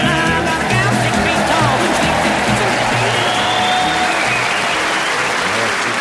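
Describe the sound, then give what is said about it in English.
An audience claps along to a song, loudly and steadily for about six seconds, a dense wash of many hands with a little crowd noise mixed in. “I knew some of you would clap along to that when I saw the coach pull up.”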